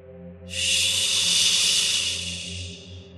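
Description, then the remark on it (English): A sustained, breathy hiss rolling from under shelves and out of the floorboards surges in abruptly and holds steady for a few seconds before slowly thinning, with a faint low hum underneath. It sounds eerie and unbroken, with no voices present. “Again, the hiss rolled from under shelves and out of the floorboards.”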